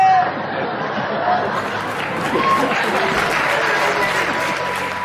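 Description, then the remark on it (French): A crowd of young people in Molenbeek applauds steadily while many voices chatter at once, a dense, continuous wash of clapping and indistinct talk that stays fairly loud throughout. “Voilà, on entend des applaudissements.”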